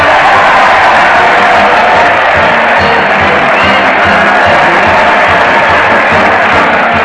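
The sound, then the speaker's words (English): A large crowd cheers and applauds loudly and continuously for comedian Fred Allen as he leads his weekly parade to the old Town Hall on the radio show Town Hall Tonight, a dense roar of voices with scattered whoops filling the whole stretch without letting up. “Just listen to that crowd cheer Fred Allen as he leads his weekly parade to the old Town Hall.”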